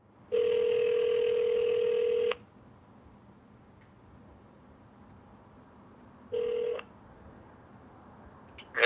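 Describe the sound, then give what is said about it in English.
A telephone tone sounds steadily for about two seconds as a call is placed to a phone number, followed by a quiet pause with faint line hiss, then a second, shorter tone and a soft click at the end. “And I find a phone number.”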